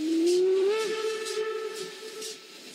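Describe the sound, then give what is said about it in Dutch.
A steam train whistle blows one long, steady, slightly rising tone, loud, while rhythmic puffs of hissing steam chuff beneath it and the whistle fades, as the train pulls out of the station at Aalst. “Toen de trein het station uitreed, wuifde ik lang naar die lieve dame en het Hongaarse meisje.”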